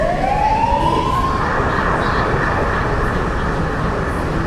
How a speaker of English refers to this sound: My understanding of this entire topic, I think it's, is that we allow the ambulance to pass.